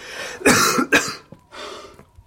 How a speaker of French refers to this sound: Vous m'avez fait tant de mal que je vais veiller toute la nuit. En m'étranglant avec cette toux.